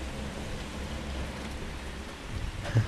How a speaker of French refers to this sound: Non, mais c'est la pluie, vous savez, c'est tout.